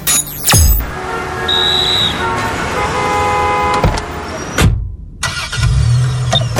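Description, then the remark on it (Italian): An Opel Corsa engine runs steadily amid city traffic, with a continuous road rumble, a few sharp clicks, a brief high beep, and a short sudden cutout before the noise resumes. “Come faccio a sorridere anche nel traffico cittadino? Forse è perché mi diverto a guidare.”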